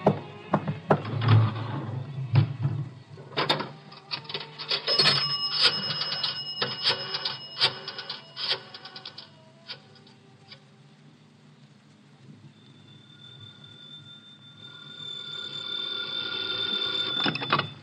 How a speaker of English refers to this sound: I got to make a phone call. There's a booth. It'll only take a minute or two.